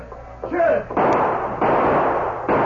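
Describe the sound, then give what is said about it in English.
Three loud gunshots ring out, spaced about a second apart, each leaving a long echoing rumble, with a brief tonal cry-like sound just before the first. A sheriff fires his guns from his office at outlaws robbing a bank. “Then the sheriff opened fire. As he triggered his guns,”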